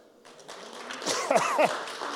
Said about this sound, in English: Let's clap for our pastor as he comes.